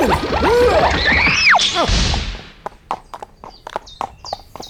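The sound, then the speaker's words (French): A horse whinnies loudly, then its hooves clip-clop in a steady rhythm of sharp knocks over a couple of seconds as it is ridden through Gaul into the land of the Arverni, with no one talking. “J'ai la Gaule à mes pieds et me dirige sur mon cheval France Inter dans le pays Arverne afin d'y rencontrer le grand chef Gétorix, versin de son prénom.”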